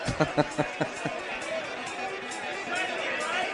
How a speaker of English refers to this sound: The crowd is getting restless here. This may turn a few people away from ….